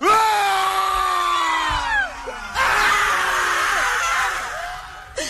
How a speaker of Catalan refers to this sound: Podríeu fer-me un crit una mica de por ara, entre tots plegats? Ara. Vinga, va, una miqueta de crit. Vinga, va. 3, 2, 1, foteu-li.